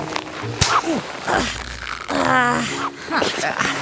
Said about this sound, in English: Oh, yeah. It's built to stretch. Here, stay still and I'll zip you up.